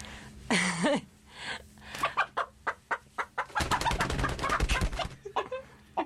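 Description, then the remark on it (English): A black-and-white Barred Rock hen lets out a short rising squawk, then clucks in a quick, steady series of sharp notes that grows denser and louder, with no talking. “This is one of our hens. It's the it's a barred rock, and barred rocks are black and white, and they're one of the better breeds.”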